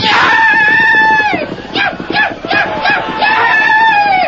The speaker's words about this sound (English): In response to his master's urging, and even though he carried two men, Scout lunged forward at breakneck speed. In the confusion, Tonto depended upon speed and his wild yells to be taken for just another Blackfoot brave.